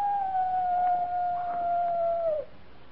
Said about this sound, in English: That's just a coyote. Just a coyote. You act like it meant something, Captain.